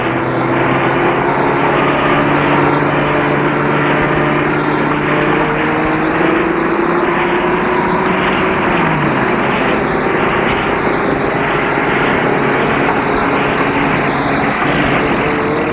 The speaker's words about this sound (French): Les rues sont remplies de camions, de soldats.